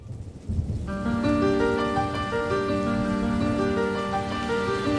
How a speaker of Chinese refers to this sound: 淅沥沥，淅沥沥，天空开始下雨，小雨变成倾盆大雨。